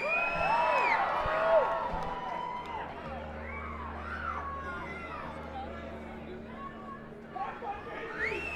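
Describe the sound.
A live audience shouts song requests over one another, many overlapping voices calling out at once in a loud, continuous crowd din with a low hum underneath.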